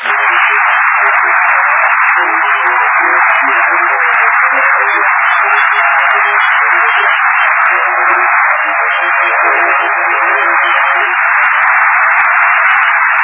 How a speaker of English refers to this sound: Bless you all for that applause.